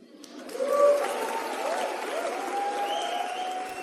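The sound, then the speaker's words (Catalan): A crowd applauds after a poem reading at Barcelona City Hall, the clapping swelling quickly in the first second and holding at a dense, even level throughout, with faint cheers or voices mixed into the noise. “Aplaudiments en aquest moment, aquest poema que va aixecar expectació a l'Ajuntament de Barcelona”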